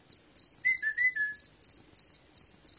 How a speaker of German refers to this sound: Wo brennt es? Warum pfeifst du noch so spät?